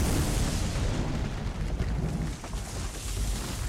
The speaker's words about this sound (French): Fait que j'ai fait une annonce dans le Facebook et ça a fait l'effet d'une bombe presque atomique. Ça a là... Boum!